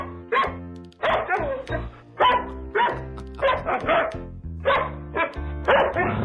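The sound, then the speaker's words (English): Dogs bark in a quick, sing-song rhythm, roughly a dozen loud yaps grouped in musical phrases over a steady low instrumental backing. “There was an athlete had a dog, and Mike Vick was his name.”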